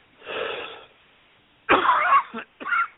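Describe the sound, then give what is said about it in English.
A soft, breathy cough is followed by a loud, harsh hacking cough and then one shorter cough, three bursts in about three seconds with no talking, sounding thin and band-limited like a phone line, heard during a live broadcast phone call. “Oh man, am I sorry to be coughing in your ear?”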